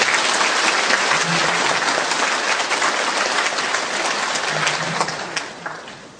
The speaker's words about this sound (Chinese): 但是今天香港人又有了一位科学家，又做过校长，又用广东话用现身说法给我们做推销员，所以我们应该给他掌声，我们拍手。